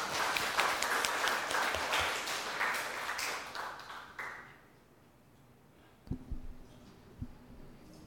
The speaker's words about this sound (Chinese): 接下来还是让我们主讲者，他一定有精彩的报告哦。我们欢迎陈博士，大家鼓掌。